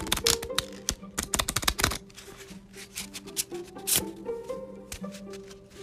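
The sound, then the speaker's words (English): A tarot deck being shuffled: a dense, rapid flurry of crisp papery flicks for about two seconds, then softer, scattered taps and riffles over a faint, steady tonal background. “And we'll shuffle them while we're here.”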